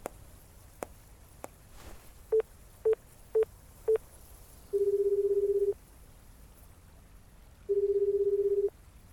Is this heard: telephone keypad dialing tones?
yes